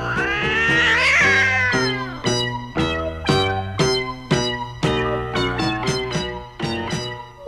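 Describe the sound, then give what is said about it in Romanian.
A cat yowls loudly, opening with a long, rising wail and then breaking into a rapid series of shorter, strained cries, with no other sounds. “Apleacă-te puțin peste balcon să-ți arunc eu pisica.”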